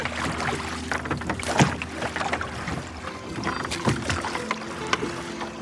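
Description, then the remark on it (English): Oars dip and pull through water in slow, steady strokes as a crew rows a boat, turning round to head back towards the beach, each stroke with a splash and creak, over a continuous wash of lapping water and light outdoor ambience. “So the folk on the left-hand side of the boat are still rowing, so we're turning round, heading back towards the beach.”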